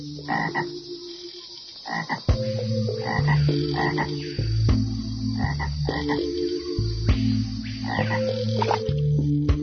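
Frogs croak in a steady, overlapping chorus of deep, buzzing calls that pulse in repeated bursts, loud and continuous throughout with no voices.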